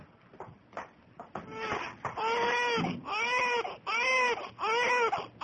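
An infant fusses with a few short whimpers, then breaks into a run of about four loud, drawn-out wailing cries, nearly continuous; the child is seriously ill with a high fever that will not go down.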